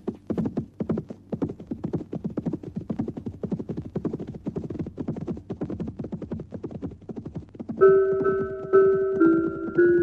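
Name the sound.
horse hooves clip-clopping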